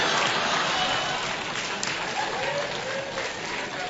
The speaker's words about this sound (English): See, you clap at that because you can relate to that. You listen to that and you go, yes. Good for him.